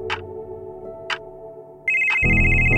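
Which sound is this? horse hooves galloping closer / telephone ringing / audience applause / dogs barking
telephone ringing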